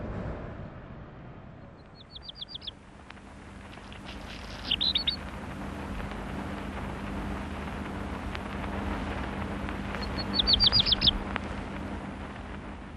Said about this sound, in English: I'm on the 7th floor balcony of Broadcasting House in London, looking down Regent Street. Here, Koch recorded the Black Redstart in May 1949, very nearly 60 years ago.